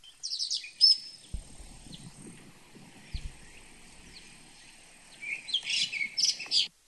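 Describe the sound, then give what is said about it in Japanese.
A Blue-and-white flycatcher (Ooruri) sings clear, whistled phrases, with a burst at the start and a richer flurry near the end, over a quiet hiss of a gently flowing stream and a couple of soft low thumps. “はい、でこの鳥のさえずりっていうのがですね、 はい、 私があの聞いたオールリっていうのがね、 こんな 音なんですよね、びっくりしますよ。”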